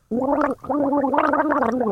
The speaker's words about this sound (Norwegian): Gurgler, da. Denne lyden kjenner jeg. Synger under vann, da. Ja, det er en lyd.